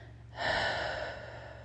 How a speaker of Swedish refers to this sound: Så dra gärna ett djupt andetag och andas in och räkna till 5. Håll andan uppe på toppen och andas ut, pusta ut genom munnen.